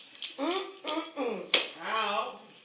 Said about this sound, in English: No, you get snapped. You get snapped for that. Snap. Okay? There's no clapping stuff. This is snap.